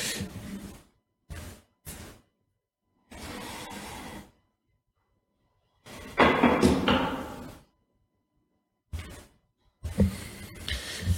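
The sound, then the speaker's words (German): Chairs scrape and drag across a floor in a series of short, irregular bursts separated by pauses, moderately loud, with one longer, louder drag near the middle and no voices. “Und wir ziehen diese Stühle so nah an uns ran, dass wir gar nicht anders können.”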